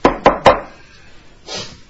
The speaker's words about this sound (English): You're having a late morning sleep. And then there's a knock on the door.